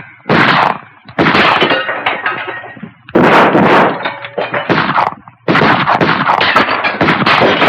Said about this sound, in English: Two soldiers creep toward the train. Gilbert shoots one of them. The second ducks down as the other soldiers open fire from behind the cars. Gilbert fires back.